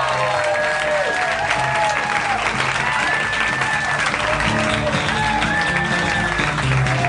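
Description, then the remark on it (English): A live audience at a Harmontown show applauds loudly and steadily as Dan Harmon is welcomed on stage, a dense wash of clapping layered with cheers and a few rising whistles, with no break in the noise. “Wow, what a crowd.”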